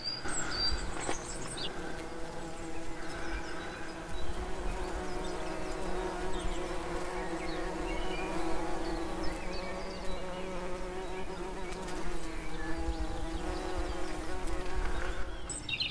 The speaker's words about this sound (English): Listen to the bees for a second. I wonder if we can hear them.